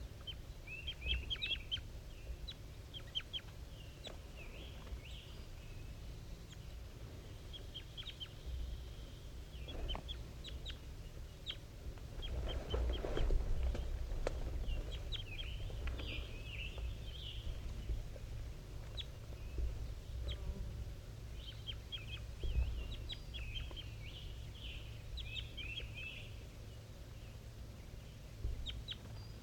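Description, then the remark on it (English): A wild bird and a bird designated 5-3 call back and forth, trading bursts of high, scratchy chirps every few seconds over a steady low hum. A louder rustling swell comes midway. No one speaks. “Wild bird and 5-3 still calling back and forth.”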